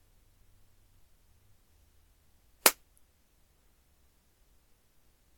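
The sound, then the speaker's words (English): A single sharp, loud slap across the face cracks out in otherwise quiet surroundings, with only faint low background rumble before and after. “If you don't take your hands off me right now, I'll slap your face.”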